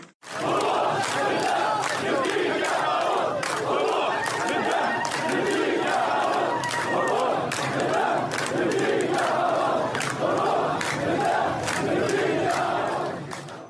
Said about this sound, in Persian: امشب 28 ساعت 11 شب مردم دارن اعتراضات میکنن.